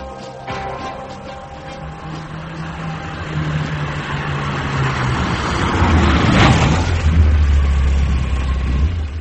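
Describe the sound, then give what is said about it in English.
A car engine idles with a steady low rumble, then revs up, growing louder and rougher toward the end before settling into a deeper, stronger drone. “That, my son, is one of the cleanest motors I've ever had.”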